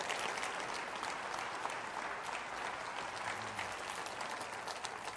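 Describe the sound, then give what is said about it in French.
An audience applauds the power and grace of God at a religious service, steadily for several seconds, a dense, even wash of many hands clapping at once with no pauses and no voices standing out. “Oh, applaudissez la puissance et la grâce de Dieu.”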